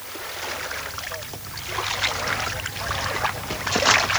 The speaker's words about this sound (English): The port of Vlora is virtually deserted. The water laps gently against the quayside. There are no more boats preparing to cross the Adriatic to Italy.